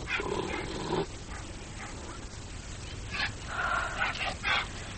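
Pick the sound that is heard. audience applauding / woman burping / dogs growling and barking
dogs growling and barking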